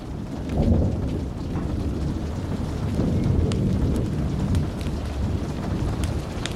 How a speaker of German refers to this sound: legte das Buch auf den Tisch und wandte seinen Blick dem Fenster zu, wo das Gewitter noch immer tobte. Die Regentropfen prasselten gegen die Scheiben, tanzten einen wilden Tanz im Licht der Blitze.